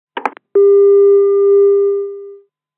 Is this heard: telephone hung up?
yes